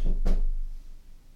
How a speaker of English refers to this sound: Someone's just knocked on the door. Don't really know why. Kind of in this office. It's my first day and nobody's knocked on the door. So that's quite worrying. But did you hear the knock on the door?